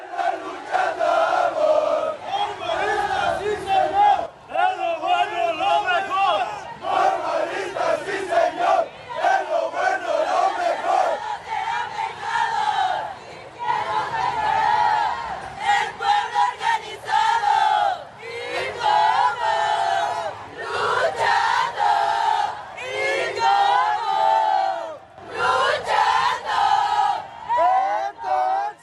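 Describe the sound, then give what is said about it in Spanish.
A large crowd of about 7,000 marchers chants slogans in unison throughout, loud rhythmic shouted phrases repeating in bursts with brief pauses between them, at a protest march demanding justice over the disappearance of the normalista students on the night of 26 September 2014. “A lo largo de la manifestación, 7,000 participantes recordaron los hechos de la noche del 26 de septiembre de 2014 al realizar consignas para exigir justicia y castigo a quienes resulten involucrados en la desaparición de los estudiantes normalistas.”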